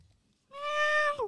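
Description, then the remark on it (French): A single drawn-out cat meow, steady and fairly loud, dropping in pitch as it trails off at the end, heard on its own with no talking. “Écoutez, vous avez entendu ? Oui, on dirait un chat.”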